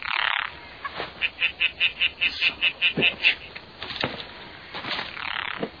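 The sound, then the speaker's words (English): A tree frog calls in a quick, even run of about a dozen bright, high-pitched croaks, fairly loud over a steady background hiss, with no talking. “Dude, it's just a tree frog.”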